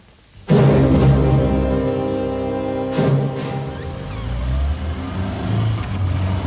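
A car engine abruptly catches and roars to life, then revs hard again a few seconds later as the vehicle pulls away, the motor droning steadily throughout with no voices.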